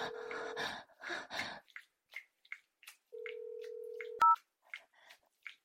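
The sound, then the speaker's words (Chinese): A telephone ringing tone of a call placed to a husband: steady single-pitch beeps over breathy rustling, then a longer held tone ending in a sharp electronic blip, followed by scattered faint clicks. Moderately loud, with no speech. “问问你老公的意见吧。 我不要，不要给他打电话”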